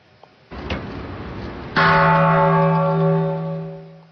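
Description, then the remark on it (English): The Peace Bell at the United Nations, presented by Japan in 1954 and cast from coins collected from nations around the world, is struck once at the annual ceremony ahead of the International Day of Peace. Its deep resonant tone rings out loudly and slowly fades over a steady background murmur. “The annual ceremony of ringing the peace bell at the UN takes place ahead of the International Day of Peace on September 21st.”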